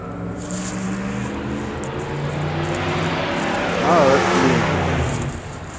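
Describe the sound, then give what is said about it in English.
A truck engine roars, revving hard as a young driver burns out from a corner and accelerates away toward a main road, its droning pitch climbing sharply near the end before the sound begins to fall off. “and then squealed out from, burned out from the corner, and hauled ass as fast as he could around the corner to get on the main road here.”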